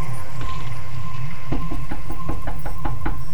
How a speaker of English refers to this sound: Go up to the nearest house and I get out of the truck and I walk up to the door and I knock on the door.